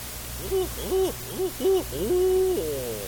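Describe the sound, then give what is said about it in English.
A voice imitates the owls of the St. John's River swamps, giving four quick rising-and-falling hoots followed by one longer, drawn-out hoot that trails off, clear with no other sounds around it. “Down in the St. John's River swamps, you could hear the owls laughing and talking to each other.”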